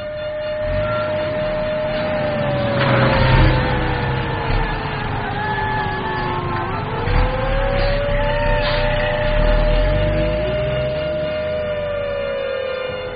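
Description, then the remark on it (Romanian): Wailing air-raid sirens rise and fall in long, sustained tones, loud and continuous, over a background of street noise and passing traffic, heard on a Saturday evening after dinner at a student dormitory. “Dintr-o dată, urletele sinistre ale sirenelor.”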